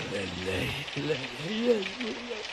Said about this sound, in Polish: Tam taki deszcz. Widziałem większe.